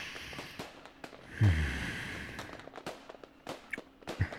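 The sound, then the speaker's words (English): Fireworks crackle and pop at irregular intervals, with one deeper, muffled boom near the start, all fairly quiet against a soft outdoor background hiss and no talking, on a chilly day. “God, you look cute like this under the fireworks.”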